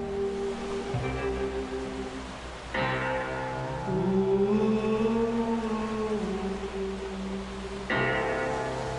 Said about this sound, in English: What's that banging on the piano?